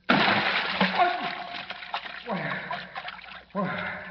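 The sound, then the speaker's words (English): A loud splash as Batman plunges into a deep vat of ice-cold water, followed by churning, sloshing water and gurgling vocal sounds, then a second burst of splashing near the end. “As Kent searches desperately, his X-ray vision unable to penetrate the lead backing of the mirrored floor, Batman, plummeting down through inky black space, lands in a deep vat of ice-cold water.”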